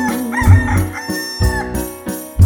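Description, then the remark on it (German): A rooster on a dung heap gives a cock-a-doodle-doo over a steady musical backing with thumping bass beats, the drawn-out crow rising and wavering loudly near the front of the mix. “Und der Hahn auf dem Mist, der macht Korkeridl-do, die Dudeli, Dudeli, Dudeli, du.”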